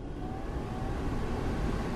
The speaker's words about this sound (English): In the United States, that sound has become a part of the climate. Energy-sucking air conditioning, blowing through the interior spaces of our lives constantly.